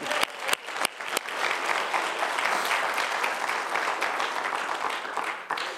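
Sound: audience applause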